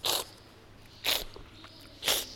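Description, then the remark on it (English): Three short, hissing slurps of air drawn through the teeth while olive oil is held in the mouth for tasting (strippaggio), aerosolizing the oil, evenly spaced about a second apart with quiet pauses between them. “It's slurping, essentially. You slurp, drawing in air in the corners of your mouth, which aerosolizes the oil”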